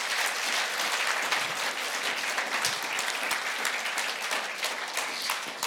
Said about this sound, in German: Ja, geben noch mal Applaus.